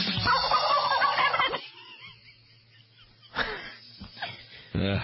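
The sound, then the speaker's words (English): A person loudly imitates a turkey's gobble with a rapid, warbling burst, then a quieter pause before a few shorter, choppy vocal bursts follow. “Why did the turkey bolt down his food? He was gobbling.”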